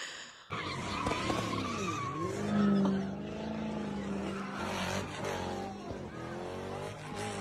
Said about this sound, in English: He got hit by the car that was, not only did he get hit by the car that was drifting.